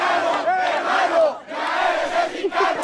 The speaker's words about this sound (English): Fans there are chanting, saying to the consul general, "Korean brother, you are Mexican now."